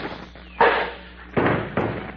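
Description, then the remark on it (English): A thrown metal spittoon strikes a head with a sharp crack, followed by two more clanging impacts, each loud, with a brief ringing decay and no voices. “I'll throw a cuspidor at him.”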